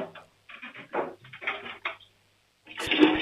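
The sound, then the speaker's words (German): A loud toilet flush roars in near the end, a sudden rush of water, after a stretch of muffled bumping and indistinct voices. “Ihr habt aber eine schön laute Klospülung,”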